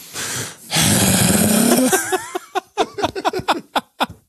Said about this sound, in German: Einfach so reinatmen, richtig tief einatmen ins Mikrofon so.